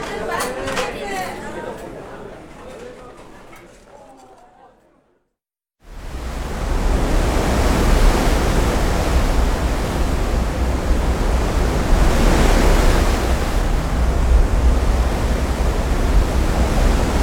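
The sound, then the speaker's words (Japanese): Several passengers chat cheerfully for a few seconds, then after a brief silence a loud, steady rush of wind and breaking waves takes over, with a deep rumble underneath, from a passenger ship at sea heading south toward the Ogasawara Islands. “お客さんの陽気な声を乗せて船は一路南を目指します。”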